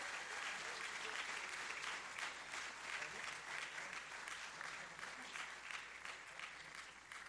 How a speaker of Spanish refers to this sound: Oh, denle un fuerte aplauso al Señor, aleluya.